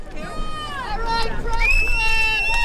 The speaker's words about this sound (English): Near the finish line, people are sitting in folding chairs, cheering on the rowers.